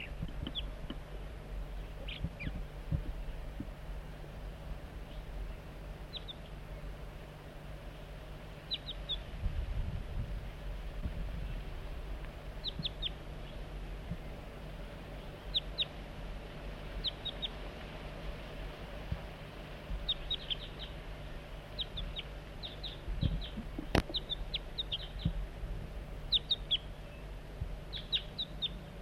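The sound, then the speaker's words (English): Short, high chip-like calls of a juvenile crossbill repeat irregularly, often in quick pairs or clusters, over a steady low hum with faint background noise. “The juvenile remains here.”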